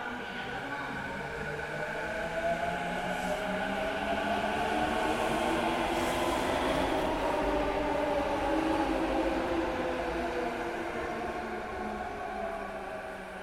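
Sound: train travelling on rails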